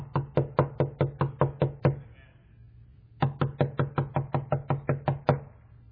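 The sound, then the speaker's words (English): Two rapid bursts of knocking on a door, each a run of about eight to ten firm, evenly spaced raps, separated by a short pause; fairly loud, with no voices. “He's on the outside of His church, and on the inside, if any man open the door, I'll come in.”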